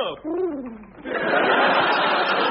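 A pigeon that has stolen a handkerchief gives a brief warbling coo that rises and falls, then a loud, steady rush of noise takes over for the rest of the moment, fairly loud.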